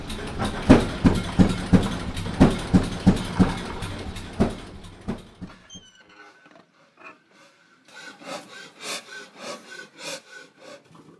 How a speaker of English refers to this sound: As we come to a shiny, dark green engine sitting on a wood pallet, he tears up. But this was the first engine I ever started. It was my dad's.